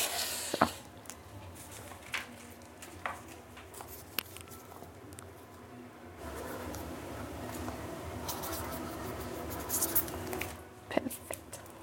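A pen scratches across paper in bursts of short strokes as a person writes an entry in a book during an interview in a Ferris wheel, with a few light taps and rustles, growing busier toward the end. Faint murmuring can be heard in the background.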